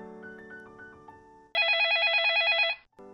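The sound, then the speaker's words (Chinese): A telephone rings loudly in one warbling electronic burst lasting just over a second, following a soft tinkling musical passage, with no talking. “电话响了，米妮急忙去接电话。”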